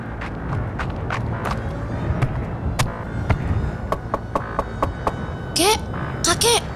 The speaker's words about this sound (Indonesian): Winnie berusaha memanggil dengan lebih keras lagi sambil terus mengetok pintu. Tapi tetap tidak ada jawaban.